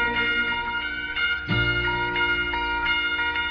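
A Christmas bell rings with bright, lingering tones that hang in the air, and a fresh strike halfway through adds a deeper resonant boom before the ringing continues steadily.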